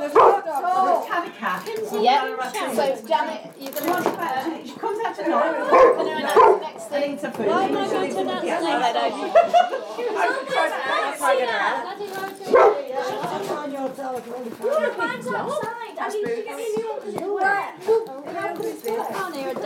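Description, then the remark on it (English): Several dogs bark and yip almost nonstop, their sharp, overlapping calls piling up fairly loudly for the whole stretch, with a few higher whiny yelps mixed in. “And there's dogs.”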